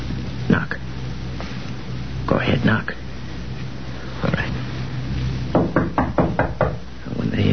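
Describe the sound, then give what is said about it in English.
Sharp raps on a room door, knocked while police wait to go in, come in bursts: a single knock, a quick group of three, another single, then a brisk series of five, over a low, steady background hum. “You stop at the room, knock on the door, and say it's you.”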